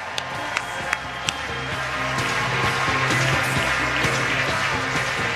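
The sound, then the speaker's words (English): A large crowd at a Chicago Blackhawks team event applauding the Blackhawks organization, a dense steady wash of clapping that swells slightly after the first couple of seconds, with a few sharp isolated claps at the start and low musical tones underneath. “So a round of applause and a tip of the hockey helmet to the entire Blackhawk organization.”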